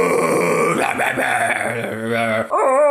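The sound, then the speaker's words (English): A person's voice mimics a monkey or ape, producing loud hooting and whooping calls with sliding pitch over a few seconds, rising sharply at the end, with no other talking. “I don't know monkey sounds.”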